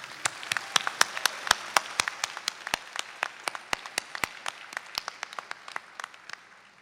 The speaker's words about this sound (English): Graduates, take a moment to thank and applaud those in the audience who made this day possible for you.